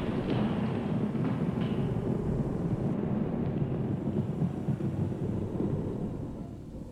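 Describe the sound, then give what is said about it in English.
A deep, roaring blast in a tunnel, set off by an engineer pushing a plunger, its shockwave rattling the tunnel in a gust of wind; it holds steady for several seconds, thick with crackling gravel raining down, then begins to fade toward the end. No voices. “An engineer pushes the plunger, and the shockwave rattles the entire tunnel in a gust of wind. causing gravel to rain down for several seconds, plunging us all into pitch darkness.”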